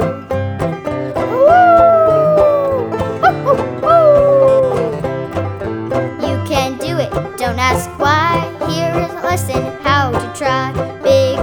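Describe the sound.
A voice imitates a puppy howling twice, drawn-out wavering glides over an upbeat musical backing, followed by more busy instrumental music.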